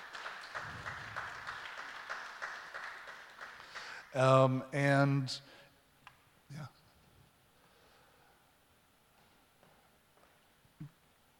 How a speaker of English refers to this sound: Let's give a little round of applause for our guests today.